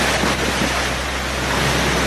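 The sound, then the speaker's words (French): A loud, unbroken roar of hurricane wind with driving rain buffeting the microphone, holding steady for the whole stretch with no voices. Category 5 Hurricane Irma on the island of Saint-Martin, with gusts measured at 360 km/h. “Sur l'île de Saint-Martin, on n'entend plus que le vent et la pluie.”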